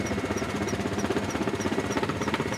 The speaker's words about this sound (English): Almost like a Harley.